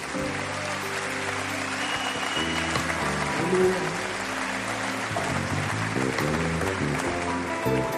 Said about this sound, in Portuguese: Você pode aplaudir o nome de Jesus.